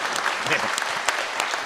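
An audience claps to thank an event organizer who arranged the venue, a steady, dense burst of applause, many hands patting at once with crisp bright transients, moderately loud and sustained throughout.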